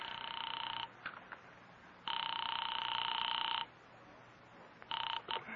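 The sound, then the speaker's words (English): A telephone ringback tone sounds on a call to North Tacoloma City, in long, steady electronic bursts separated by pauses, with a few short clicks between, fairly clear over faint line hiss and no talking. “I am actually ringing North Tacoloma City.”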